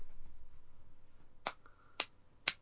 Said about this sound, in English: Slow clap.